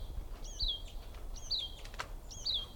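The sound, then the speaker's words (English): A bird calls three times at a steady pace, about once a second, each a high, thin chirp that slides downward, over a low background rumble with no talking. “There's also one more bird I see here.”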